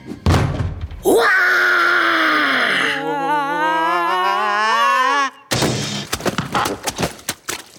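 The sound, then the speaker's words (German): A heavy thunk as a lion shoves a door open, then a loud, drawn-out lion roar that wavers and trembles for several seconds, followed by a burst of clattering, banging noise. “Du fährst einfach ganz nah an die Tür, stößt sie auf und brüllst so laut du kannst.”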